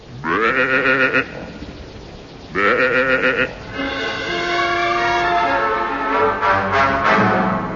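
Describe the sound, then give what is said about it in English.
A sheep named Jeffrey, eating Ayers Rock in the show It Came From Widgimultha, bleats twice, loud, each cry about a second long with a quavering tremble, followed by a longer drawn-out wavering bleat over a steady background rumble. “Doesn't this sheep know he's eating a national monument?”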